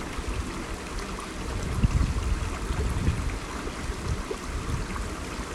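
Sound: creek water flowing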